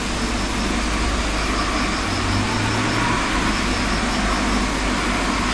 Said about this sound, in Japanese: 本当だ、電車の音聞こえるね。どこから聞こえるのかな、電車。